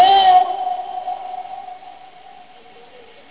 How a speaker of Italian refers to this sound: Senti l'eco! Come mai è vuoto?